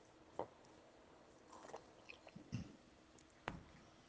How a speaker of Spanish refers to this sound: Permitirme un traguito de agua.